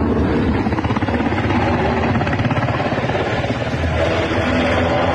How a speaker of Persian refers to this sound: هلیکوپترهای متعدد در فضای کابل در حرکت هستند و گمان می رود که دیپلمات های سفارتخانه های مختلف و نیروهای خارجی را به میدان هوایی کابل منتقل می کنند.